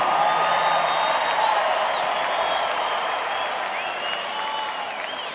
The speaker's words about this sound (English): Yes, y'all were in tune. Give yourselves a big round of applause for being in tune.